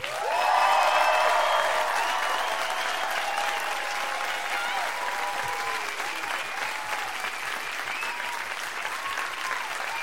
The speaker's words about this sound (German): Also erstmal euer Applaus für das großartige Lied